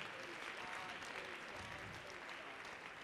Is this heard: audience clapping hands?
yes